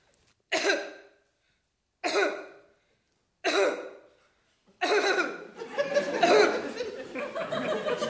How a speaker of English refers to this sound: Just a bit of a cough.